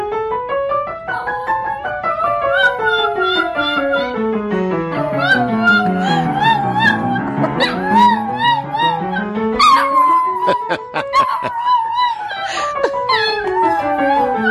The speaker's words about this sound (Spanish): Este es un vídeo que está causando toda la ternura de los cibernautas cuando un cachorro, porque es un cachorro subido a una silla, canta la melodía que su dueño está tocando al piano. Atención, porque el dueño toca. Sí. Y el cachorro canta.